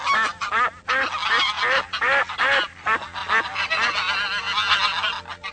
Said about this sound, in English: Some wild ducks and geese come to look at him.